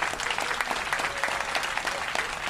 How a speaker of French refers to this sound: Bravo pour doyenné à Sainte-Anne, applaudissons toujours.